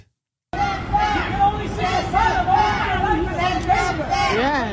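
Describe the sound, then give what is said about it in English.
After a brief moment of silence, a small crowd of protesters surrounding the Roosevelt Hotel, where hundreds of migrants are housed, shouts and yells "send them back" over one another, raised voices overlapping in a loud, continuous, angry clamor. “There are protesters who are surrounding the Roosevelt Hotel where Eric Adams is housing hundreds of migrants and then screaming, send them back”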